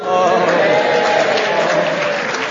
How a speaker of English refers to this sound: They recognise it in the front there. Everybody in the front row claps before they say anything. It's lovely.